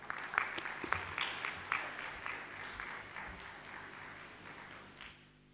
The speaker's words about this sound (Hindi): जोरदार तालियों से अभिनंदन करेंगे, धन्यवाद करेंगे